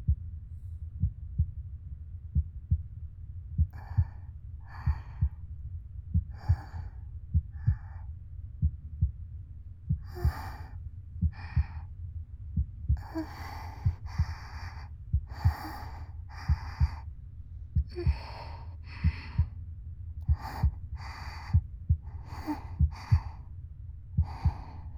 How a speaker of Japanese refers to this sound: 私は心臓の音を聞いて落ち着くわけじゃないけどな。